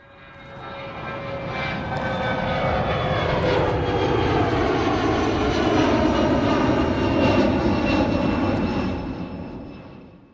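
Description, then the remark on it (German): A loud aircraft engine, similar to a private jet, drones steadily for about ten seconds, rising in from the start and fading slightly at the end, with a jet-like roar and shifting tonal whine. “Okay, das war nicht der Privatflieger von Friedrich Merz und auch nicht der Jet von Franz Josef Strauß, den du ja schon erwähnt hast, aber sowas Ähnliches”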